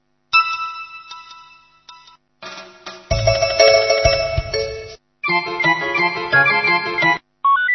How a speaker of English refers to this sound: Hear current ringtone.